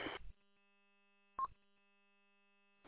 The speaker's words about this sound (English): I was wondering. I kept hearing this beep, and I'll go in and see if you can get that turned off.